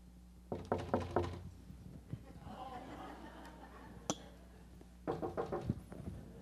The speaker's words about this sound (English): It would be a wonderful thing if you were sitting in your easy chair at the house and all of a sudden a knock comes at the door.